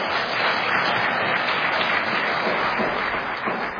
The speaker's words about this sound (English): Oh, go ahead and clap.